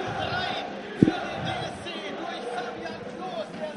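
A man yells and roars in celebration of Fabian Klos's goal making it 3:1 for Arminia Bielefeld, over a noisy, cheering crowd, with a sharp bang-like thump about a second in and the shouting sustained throughout.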